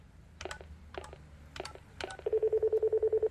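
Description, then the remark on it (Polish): Four short electronic key beeps, evenly spaced, followed by a rapid run of about ten quick identical tones, as a mobile phone dials a number to call the boss; clear with no talking. “Nie zgubiłam mojej komórki. To świetnie, połącz się z szefem.”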